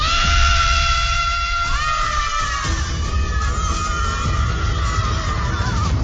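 Spanish national team handball player Eli Pinedo lets out a loud, drawn-out shout that holds for several seconds, its pitch wavering and sliding, over a constant roar of background noise.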